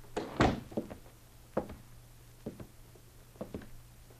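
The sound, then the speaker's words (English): The door of a bank in Morriston shuts with a solid thud as two men close it behind them, followed by a handful of lighter clunks and knocks spaced over the next few seconds, with a faint steady hum underneath and no voices. “They exchanged nods, and apparently satisfied, the men closed the door.”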